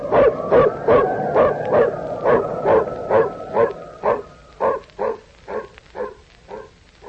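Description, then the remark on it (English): A female dog barks repeatedly in a steady, rhythmic string of about fifteen sharp yaps, mixed with high whining whimpers, the barks growing more spaced and distinct toward the end. “And don't forget the Pooch. She's the one that found us.”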